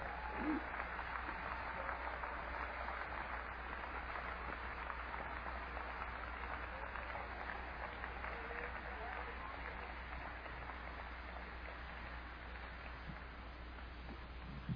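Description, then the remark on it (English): An audience gives God a clap offering, clapping hands in steady, dense applause for about fifteen seconds. It is a continuous crackling wash of many hands at an even loudness, with no voices standing out. “Give God a good little clap offering here for a minute.”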